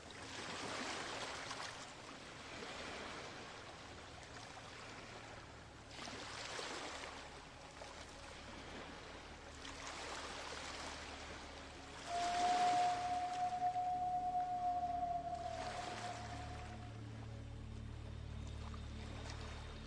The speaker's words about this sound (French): Donc on entend les baleines, donc je vous laisse vibrer au chant des baleines.